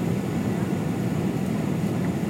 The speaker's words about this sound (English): Yeah, definitely final approach. How do you know? Because the engines have gone down a little bit more.